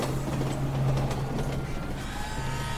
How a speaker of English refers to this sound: And there's the 1:42 p.m. L train headed downtown.